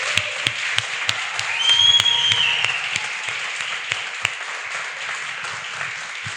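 Steady applause from an audience for a singer after a song he composed, dense overlapping claps with sharper individual claps standing out, swelling briefly in the middle along with a faint high whistle before settling back to an even level.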